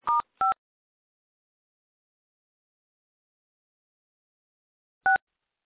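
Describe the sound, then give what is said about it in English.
Two quick telephone keypad tones in succession, then nearly five seconds of silence before a third identical dual-tone beep, during a problem with the phone. The tones are clear, with no voices. “We seem to have a problem with the phone.”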